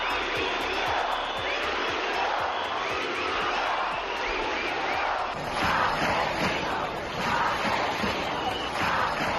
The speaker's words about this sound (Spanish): Gritos de Mazón dimisión y asesinos, asesinos en la manifestación de este sábado en el centro de Valencia. Esto deja claro el objetivo de la protesta.